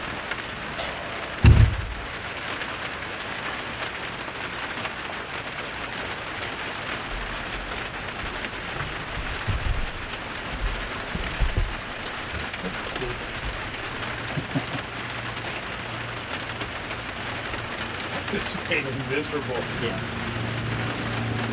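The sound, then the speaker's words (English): Heavy rain falls steadily, a dense, constant hiss of drops pattering on surfaces, broken early by a single brief low thump, with faint voices now and then beneath the downpour. “Yeah, it's raining pretty good, for sure.”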